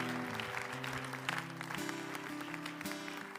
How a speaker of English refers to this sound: So I'm going to call Pastor Franco back up. Can we give Pastor Franco a round of applause as he comes up?